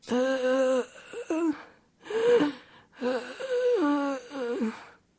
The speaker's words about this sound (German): Und dann hört ihr vor euch ein Geräusch wie von einem schweren Atmen oder von einem Weinen, schwer zuzuordnen.